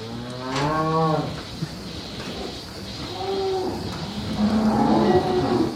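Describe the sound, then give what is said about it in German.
A dairy cow, almost entirely black with a white belly, white udder and a white marking on the left shoulder, moos several times in a row at Haus Düsse near Soest, Germany: drawn-out harmonic calls that rise and fall, over a steady background hum with no speech. “Die Kuh lebt in der Nähe von Soest im Haus Düsse.”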